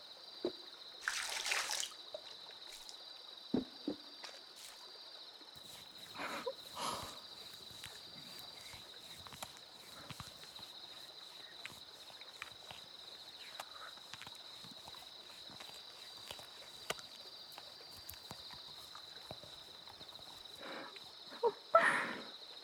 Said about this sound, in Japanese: ふわふわになっていく泡の音。振り返らないでくださいね、ご主人様。 今、私はご主人様の耳元で石鹸を泡立てていますから。